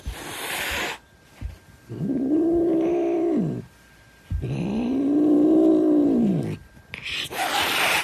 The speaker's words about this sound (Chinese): 如果是发出嘶哈的声音，这个是警告或者是威胁的意味，可能是因为猫咪感到害怕，充满防卫心。猫咪可能会对来访的陌生人发出嘶嘶声，但也可能是猫咪知道但讨厌的对象，又或者是要警告另外一只猫咪，要求对方退后。